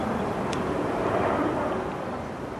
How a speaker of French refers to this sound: Alors je pensais déjà aux avions en arrivant sur le site, parce qu'ils défilent les uns derrière les autres au-dessus du quartier. C'est une route aérienne vers Brussels Airport.